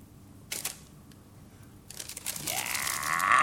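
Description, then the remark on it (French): A paper envelope is crumpled and thrown away: a brief rustle, a pause, then dense, crackling crinkling that swells louder toward the end. No one speaks. “Il froisse et jette l'enveloppe.”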